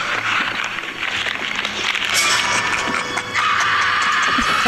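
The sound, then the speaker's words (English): A shrill, high-pitched girly scream rings out loudly and holds steady for several seconds over a harsh, noisy background, its tone sharpening toward the end. “Another girly scream.”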